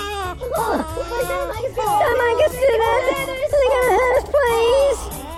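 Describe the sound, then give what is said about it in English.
Several babies crying and wailing together at the Baby Broncos Nursery, their high, wavering voices overlapping in a continuous, distressed chorus that rises and falls in pitch for about five seconds. “The little darlings sound terrified.”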